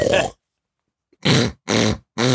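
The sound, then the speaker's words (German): A person imitates a pig with four short, loud, throaty grunts: one burst, a pause of nearly a second, then three more in quick succession. “Was ist das denn für ein Schwein?”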